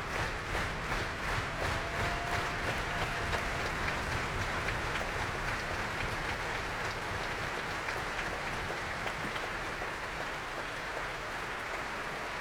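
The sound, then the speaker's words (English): A steady wash of concert audience applause for the BBC Symphony Orchestra and BBC Symphony Chorus fills the whole stretch, dense and unbroken, with heavy low thuds of very loud foot stamping pounding underneath throughout. “But somebody's stamping very, very loudly indeed.”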